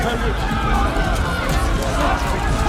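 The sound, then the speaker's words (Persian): A dense, steady rumble of many feet running together, loud, like a crowd of about 100 people charging, coming from all directions, with a blurred murmur of voices mixed into the din. “نظر صدای 100 نفره.”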